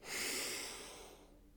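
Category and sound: human body sound, deep inhalation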